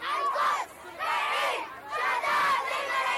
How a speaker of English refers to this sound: Shouts from protests in support of Gaza and denouncing the massacres in Palestine and Lebanon have been echoing across the capital, Beirut.